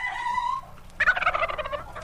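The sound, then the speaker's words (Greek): Poultry in the poultry room of a museum cackle and gobble, a sustained harmonic call first, then after a brief pause a loud, rapid burst of rattling gobbles lasting about a second. No one speaks. “Λίγα λόγια και πάμε στο δωμάτιο με τα πουλερικά. Τα ακούτε πώς κακαρίζουνε?”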